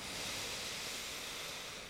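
A long, steady deep breath drawn in through the nose, filling the chest and belly with air, a soft airy hiss that holds evenly for nearly two seconds with no talking over it.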